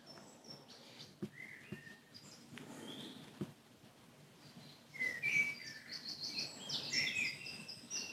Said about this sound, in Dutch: Mijn stem, misschien geluiden van binnen, hoor je de adem of iets dergelijks. Geluiden van buiten de ruimte, de vogels.